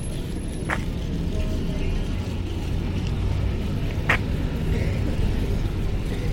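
Buses arriving from all directions rumble steadily, a continuous deep engine drone filling the scene, with two short hissing bursts cutting through around a second and four seconds in.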